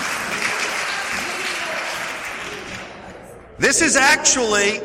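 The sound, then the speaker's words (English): Steady crowd applause for church volunteers, a dense wash of many hands clapping, fills the first three and a half seconds and tapers slightly before a single voice begins speaking over the tail end. “Another round of applause for our faithful volunteers.”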